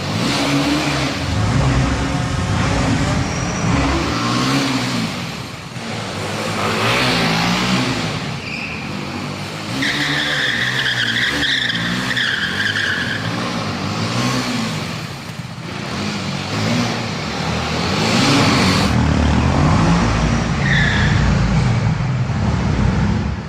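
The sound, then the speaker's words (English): A BMW G310R motorcycle engine revs hard and accelerates, its pitch climbing and dropping repeatedly over a loud, continuous roar, with no voices. “Well, as you can clearly see, the new G310R has really the same qualities, the same intuitive rider-motorcycle connection that define our complete dynamic roadster lineup.”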